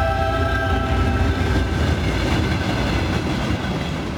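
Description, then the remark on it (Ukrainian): A Kyiv–Sofia passenger train rolls steadily along the rails, a continuous low rumble with faint rhythmic clatter and a few thin tonal whines, fairly loud throughout, with no voices. “Повертався додому поїздом «Київ-Софія».”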